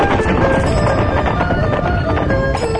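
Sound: firecrackers being set off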